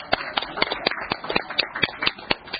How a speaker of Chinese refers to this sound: 感谢佢多年来为我哋即系观塘区啦，同埋为我哋委员会嘅作出嘅贡献，大家俾个掌声好嘛？多谢晒啊！